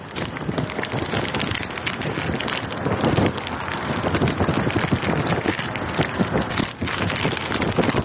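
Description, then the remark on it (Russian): A steady stream of dense crackling and rustling, a sound-effects imitation of fire made with an old broom and a handkerchief, popping continuously for several seconds without any voices. “Обычно звукооформители не раскрывают своих секретов, но есть такие простые вещи, как, скажем, звук огня, который имитируется при помощи старого веника и носового платка.”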